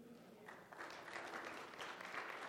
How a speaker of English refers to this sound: And everybody else applauds you, too. Almost everybody.